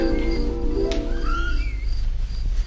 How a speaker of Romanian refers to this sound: E o frumoasă dimineață de primăvară. Răsună pădurea de cântecul păsărelelor.